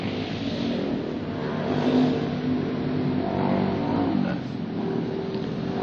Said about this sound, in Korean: 이제 주일날 여기 오토바이가 많이 지나가요.